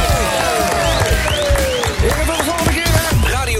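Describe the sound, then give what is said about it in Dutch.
Steady, dense applause from a crowd runs throughout, with voices cheering and whistling over the clapping at a constant, fairly loud level. The applause is for two participants who are being thanked for taking part. “En dit applaus is voor jullie.”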